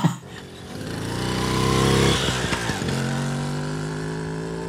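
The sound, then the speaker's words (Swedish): A small Pedorett moped engine runs steadily, its buzzing pitch climbing as it revs, wavering briefly, then settling into a constant drone. “har bytt cykeln mot en moped av märket Pedorett.”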